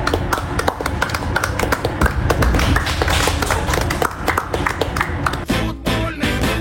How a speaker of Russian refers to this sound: «Спартак» чемпион. Аплодисменты.